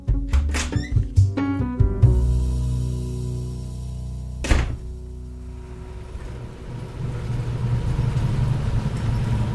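A bus engine idles with a low, steady rumble while a few sharp thunks and clanks of a door sound early on, followed by one more solid thunk midway before the engine hum continues alone.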